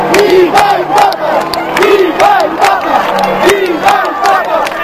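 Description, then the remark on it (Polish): A large crowd in St Peter's Square cheers continuously and loudly after white smoke appeared above the Sistine Chapel and the bells rang, with rising and falling shouts and whoops, scattered sharp claps or bangs punctuating the steady roar. “Radość, szczęście, ludzie wpadają sobie w ramiona, ocierają łzy i czekają, kto pobłogosławi z przysłoniętego purpurową zasłoną balkonu Bazyliki Świętego Piotra.”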